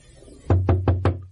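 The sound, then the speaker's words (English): Four firm knocks on a wooden door in quick, even succession, resonant with a hollow low thud, followed by quiet. “I'll knock.”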